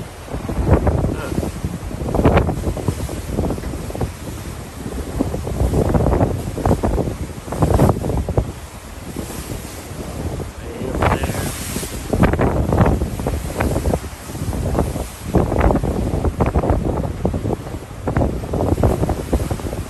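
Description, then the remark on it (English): Strong wind roars and buffets the microphone in rolling gusts, with waves washing and churning underneath, a loud, continuous open-water din, recorded aboard a ship sailing out of Galveston. “I'm on a ship sailing out of Galveston right now”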